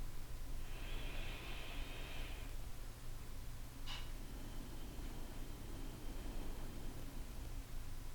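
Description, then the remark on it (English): A slow, deep breath drawn in and then released over a steady background hiss, with a brief sharp catch between the inhale and the long exhale, taken at the start of a guided meditation. No one speaks. “We're going to take a couple of deep breaths and just get into this divine moment.”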